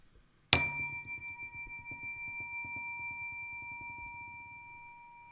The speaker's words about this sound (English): So I'll begin the meditation by ringing a mindfulness bell. And just see if you can become aware of the sound of the bell as it rings. Just try and bring your attention, focus to the sound of the bell.